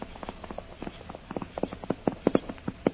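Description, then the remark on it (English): Hoofbeats of a white horse ridden by a man clatter in a quick, uneven rhythm, growing steadily louder as they draw closer, with no voices over them. “The man on the white horse is coming this way.”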